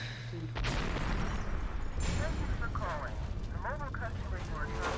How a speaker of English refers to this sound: I noticed you got a much better explosion this time.